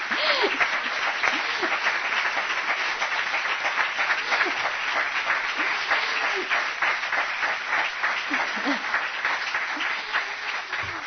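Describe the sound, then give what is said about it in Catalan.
Sustained audience applause for a group of young people at an event marking Audir's 15 years, a dense, steady wash of many hands clapping at an even loudness throughout, with a few faint voices or cheers mixed in. “I bueno, m'agradaria dir als joves d'aquest grup, si es volen aixecar un moment per visibilitzar-se, per donar un aplaudiment a...”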